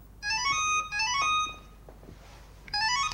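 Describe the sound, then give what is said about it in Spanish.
A home telephone rings at night with a bright electronic trill, sounding in three bursts with short pauses between, clear, with only faint background noise. “En su casa, Pablo coge el teléfono.”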